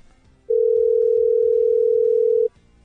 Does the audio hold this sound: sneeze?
no